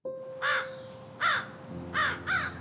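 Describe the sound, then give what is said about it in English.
A crow caws four times at a library in a slow, uneven series, each call harsh and loud, with a faint steady hum in the background and no one speaking. “What is it you think this bird wants? Why is it this place that it haunts?”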